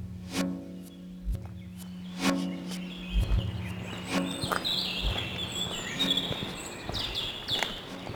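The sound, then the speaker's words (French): Birds chirp and twitter in a quiet forest, their high calls clustering in the second half, with scattered footstep-like crunches and thumps throughout. “Les sons, les oiseaux, les bruits d'eau, tout.”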